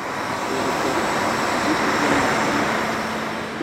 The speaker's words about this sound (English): Cars and motorcycles pull in and out of packed parking lots, and COG railway trains chug away off the mountaintop.